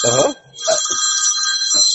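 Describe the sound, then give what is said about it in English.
A telephone rings with a bright, sustained electronic trill, loud, continuing steadily through the moment with a brief voice-like murmur at the start. “Sounds like the bat phone.”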